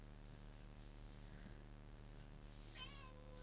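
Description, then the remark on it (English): A cat lets out a single short meow near the end, rising and wavering in pitch, over a steady low electrical hum with no one talking. “I heard the tinkling of the foots of the cat.”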